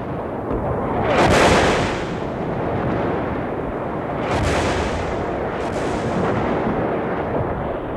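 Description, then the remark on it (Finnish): Artillery fire rumbles steadily throughout, a dense, low roar broken by three heavier booming blasts that swell up and fade back into the constant din. No voices are heard. “Valvoneina, ääntyneinä, loppuun kuluneina he odottivat tuon jyrinän loppumista.”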